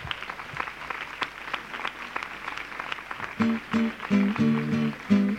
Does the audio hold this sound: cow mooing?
no